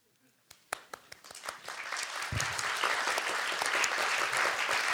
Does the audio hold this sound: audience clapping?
yes